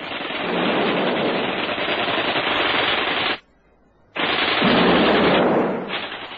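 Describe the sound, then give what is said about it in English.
Loud, continuous bursts of rapid gunfire, a gun fired wildly along with hand grenades being flung at soldiers, roar for several seconds, cut off by a brief silence, then resume just as intensely before tapering slightly at the end. No voices. “he flinging hand grenades, and she firing wildly with a gun.”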